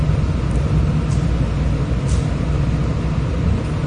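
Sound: air conditioner hum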